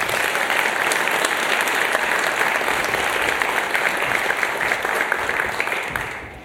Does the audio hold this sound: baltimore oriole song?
no